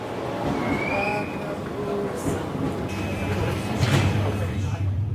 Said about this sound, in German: Auf der Bahnstrecke von Innsbruck zum Brenner verkehren nicht nur die Fernzüge, sondern auch im Stundentakt eine S-Bahn. Und in der bin ich jetzt mit relativ vielen Leuten unterwegs.